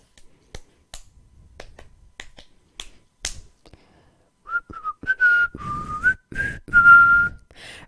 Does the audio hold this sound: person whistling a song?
yes